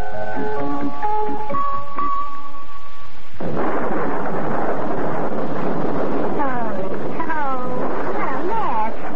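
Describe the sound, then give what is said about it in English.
After a few seconds of sustained musical tones, a loud, steady rush of rain and gusting wind takes over, continuous, with rising and falling whistling tones near the end: a late-night rainstorm on Lake Michigan, heard from a boat. “But as we were going there, late at night, it started to rain, and we ran out of gas.”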